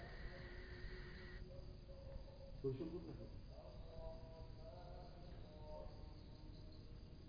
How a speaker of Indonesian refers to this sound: Ya, di sini di tempat ini orang bilang sunyi, sepi. Karena cuma suara jangkrik dan serangga-serangga malam.